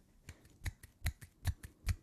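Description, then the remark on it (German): A quick run of sharp, soft slaps from one hand clapping, about nine clicks in two seconds, alternating lighter and stronger in a steady rhythm, fairly quiet, with no talking. “Das ist Klatschen. Also. Klatschen mit einer Hand.”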